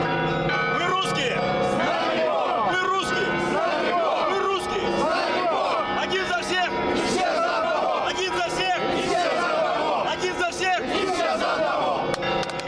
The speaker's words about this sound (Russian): Один за всех и все за одного. Это традиционные кричалки русских националистов. Вот они до этого были на русском марше, а сейчас их кричит губернатор Вологодской области.